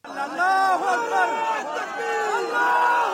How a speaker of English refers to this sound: Through the darkness and forest, the sight the crowds had been hoping, waiting and praying for. Strapped to the cable, the final rescue. Waiting arms and shouts of God is great.